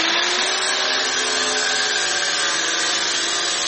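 A steady, loud high-pitched whine of an angle grinder cutting open metal safes holding documents at the Slavyansk district election commission, with a continuous harsh hiss and faint tonal hum running unbroken for the whole stretch, no voices.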